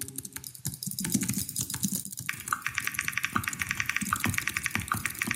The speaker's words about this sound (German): Da wird also weiter gedattelt und weiter getippt.